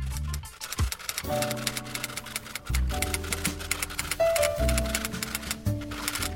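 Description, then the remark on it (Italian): Fingers clatter rapidly across a keyboard in a dense, steady stream of clicks, fairly loud, with a sustained musical bed playing underneath and no voices. “Dite sulla tastiera.”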